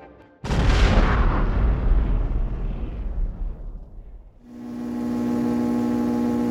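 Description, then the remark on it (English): A single loud cannon shot booms as a cannonball is fired, its deep rumble fading over a few seconds, then a steady ringing hum takes over and holds to the end. “Beach Guy positioned his hand next to a hole on the top of the cannon and ignited the trinket.”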